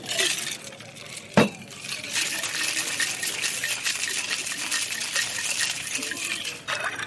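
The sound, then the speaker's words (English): Water from a garden is shaken in a cocktail shaker: a sharp metallic clink, then a steady rattling swish that continues for about four seconds before stopping abruptly. “Do you want a shake or stir? Let's have it shaken.”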